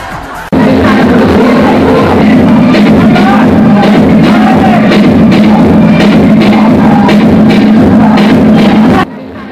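Loud, dense crowd chatter at a crowded party, many voices overlapping into a steady hubbub with occasional louder exclamations, running continuously for about nine seconds before cutting off abruptly.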